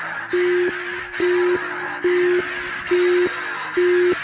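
telephone busy signal tone

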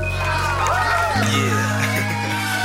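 audience applause and cheering

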